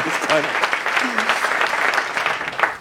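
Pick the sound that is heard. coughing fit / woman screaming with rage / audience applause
audience applause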